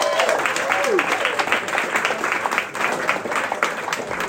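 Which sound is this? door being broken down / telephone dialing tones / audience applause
audience applause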